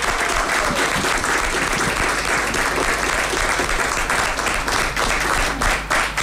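Sustained applause from a crowd for a finalist just before the winner of a listener-voted award is announced, many hands clapping steadily and densely for about six seconds at a loud, even level with no voices standing out.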